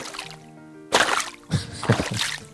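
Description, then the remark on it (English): Water splashes and sloshes in a few loud bursts after a quieter trickling start, as someone walks through shallow standing water. “Like, yeah, the bathroom, it's really filled up with water right now. Listen to this. Like splashing around in it.”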